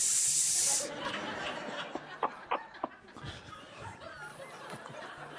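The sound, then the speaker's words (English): A voice makes a sharp, steady hiss lasting under a second, given as an answer choice in a quiz, followed by soft chuckles and quiet murmuring. “A, yes, B, no, or C, hiss.”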